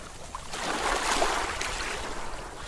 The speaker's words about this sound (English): Those ocean sounds are actually not what you'd be hearing at the aquarium.